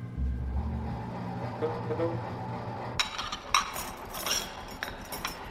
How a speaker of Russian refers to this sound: А пока Кошкину выпала малоприятная обязанность, он моет посуду на камбузе.